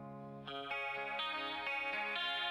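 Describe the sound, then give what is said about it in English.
A clean electric guitar, a Les Paul Gold Top through a Marshall, plays a short, ringing chord sequence with a swirling flanger and chorus shimmer and some doubling, bright and sustained, with no one talking over it. “A flanger. A little chorusy flangey action with some doubling.”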